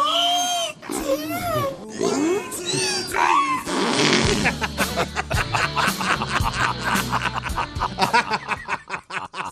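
A few seconds of sweeping, squealing whale-like calls rise and fall in pitch, then a loud band track bursts in with a steady driving beat that carries on to the end.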